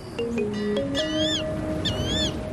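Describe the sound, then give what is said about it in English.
Several high, warbling chirps from small birds in a nest rise and fall in quick bursts inside a parking atrium next to the elevator bank, layered over steady electronic tones and a low background hum. “I hear a bird. It's a nest in here.”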